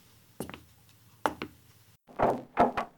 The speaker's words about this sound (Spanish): Cuando llamaron a la puerta, adormilado, bajó la escalera y recorrió el pasillo mientras se frotaba los ojos.